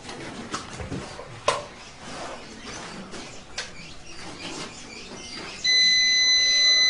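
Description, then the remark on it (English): An overload alarm from a solar power system supplied by two solar panels sounds near the end, set off by running lighting plus the refrigerator and other loads at once: a loud, steady, high-pitched electronic tone that cuts in abruptly over faint background noise and a few soft clicks. “What happens when you put lighting plus the refrigerator and others? What happens? It sounds an alarm.”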